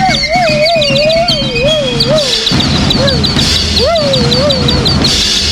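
Two canaries tweet in quick, repeated high chirps over a steady warbling whistle that rises and falls, with a dense, rumbling low background running throughout; a dog is also present.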